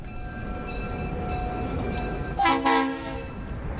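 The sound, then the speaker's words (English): A train rumbles steadily in a small rail yard near the port in Oakland, California, by tracks under a freeway overpass, its low mechanical drone filling the scene before two loud horn blasts sound near the end. “Mike Brody is standing next to the train tracks near the port in Oakland, California.”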